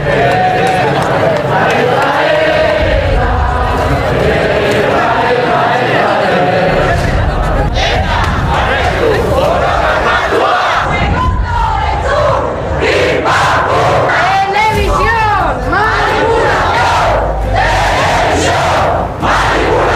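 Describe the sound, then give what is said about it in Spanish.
A large crowd of pro-ETA demonstrators shouts slogans, threats and cheers for ETA together in loud, rhythmic bursts, many voices rising and falling in unison over a steady roar of noise throughout. “Huelga decir que esos gritos durante bastante tiempo, demasiado tiempo, sonaron mucho más numerosos, mucho más fuertes que los gritos de repudio del terrorismo en el País Vasco, ¿eh?”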